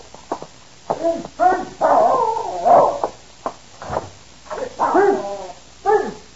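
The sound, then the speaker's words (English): A dog named Prince whimpers and gives short, yelping barks in a rapid, restless series of fairly loud bursts, with high whining tones between them and no one talking. “I'll walk the dog.”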